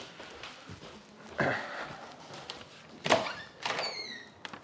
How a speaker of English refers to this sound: Okay, I'm going to open the door. Okay, one second.